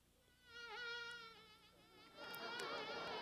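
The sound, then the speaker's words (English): A sound effect made from buzzing bugs and bees: a wavering, whining drone rises for about two seconds, then turns into a rougher, noisier buzz. There is no speech. “This was something I created from bugs and bees and that sort of thing.”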